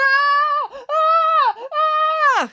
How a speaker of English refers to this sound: There was a moment's pause, then muffled screaming.